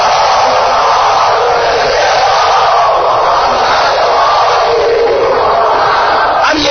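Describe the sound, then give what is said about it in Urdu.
A large audience loudly chants salawat in unison, invoking Muhammad and the family of Muhammad as a prayer for the release of prisoners, a dense, sustained roar of many voices blending together with a steady, rhythmic swell for several seconds. “ان تمام اسیروں کی رہائی کے لیے بلند آواز سے سلام بھیج دیجیے محمد علی محمد.”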